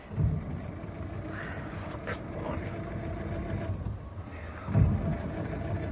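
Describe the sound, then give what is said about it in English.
A car engine, after the car has hit a snowdrift, cranks over and over without catching, a steady low rumbling churn, with two louder surges near the start and end. “Oh, the engine won't start.”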